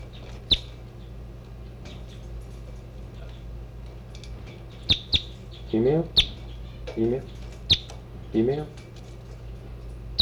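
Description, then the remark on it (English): Birds chirp in short, sharp bursts, recorded about half a meter from the birds: scattered high clicks and peeps, plus three brief, lower, throaty warbling calls in the middle, over a faint steady hum. “Time half a meter from the new birds.”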